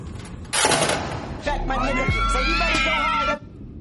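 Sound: girl screaming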